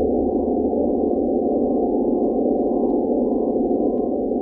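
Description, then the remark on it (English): A steady, sustained airy tone holds at a constant loud level for the whole stretch, a smooth mid-range drone with no breaks, rhythm or voices. “The fourth series of tones were the air tones.”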